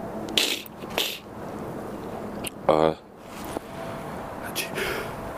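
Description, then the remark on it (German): A single sharp sneeze bursts out midway, a quick voiced explosion of breath standing out against quieter breathy, rustling noise before and after. “Sag ich ja, Hatschi.”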